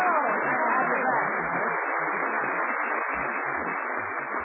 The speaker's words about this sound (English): Well, you hear that applause, Mary? Everybody missed you last Sunday.